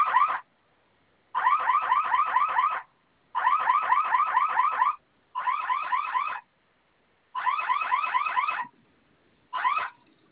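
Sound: security alarm sounding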